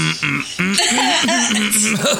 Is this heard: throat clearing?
yes